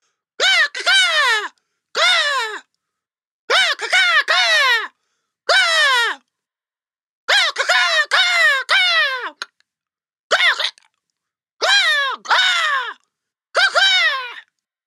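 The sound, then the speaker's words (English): A person imitates crow caws: about a dozen loud, harsh cries with falling pitch, delivered in quick pairs and short clusters separated by brief silences, alone. “Roughly translated, that means... Jim Crow's 113-step program for speaking Crow is amazing.”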